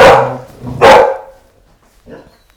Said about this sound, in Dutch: Het is nu niet het juiste moment om te blaffen, maar bon, het is natuurlijk gedrag op dit moment.